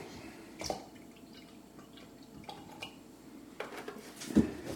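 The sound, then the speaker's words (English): A matcha drink is mixed hard in a cup until foamy, with soft liquid swishing and a few sharp clinks against the cup at irregular moments, fairly quiet, with no talking. “The matcha I like to mix up until it's kind of like, I mix it hard till it's kind of foamy.”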